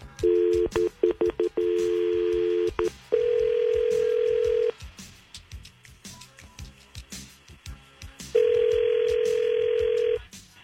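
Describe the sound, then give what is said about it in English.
A rapid burst of touch-tone dialing beeps as a phone call is placed, then a steady telephone tone that cuts off, a quiet pause, and the tone returning for a couple of seconds, clear with no talking. “I want you to hang on the phone, mute your phone, and let us just do the call just to see where he sends them.”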